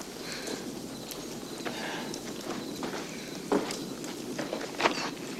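Heavy footsteps stomp unevenly across rocky ground as someone stomps back to sit by a fire, a handful of crunching steps over a low, steady background hum, with two sharper thuds standing out near the end.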